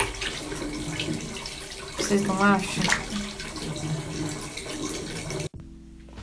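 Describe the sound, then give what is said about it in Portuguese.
Steady, hissing tap water runs continuously while a person brushes their teeth, then cuts off abruptly near the end. A person asks a short question midway over the rushing water. “Estou escovando os dentes aqui.”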